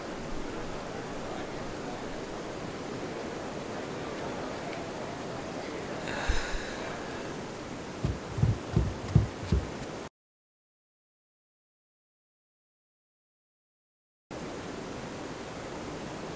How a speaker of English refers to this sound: I can barely hear my own voice over the sound of the water rushing around the corner of the hall